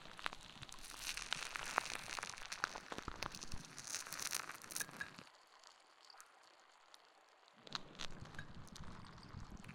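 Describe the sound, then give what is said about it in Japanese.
Dense crackling and popping of foam bubbles at the ear as the outer ear is cleaned with foam, a steady fizzing crinkle that briefly drops out midway before resuming, with no talking. “主、変に動くと耳の中に泡が入ってしまうからな。”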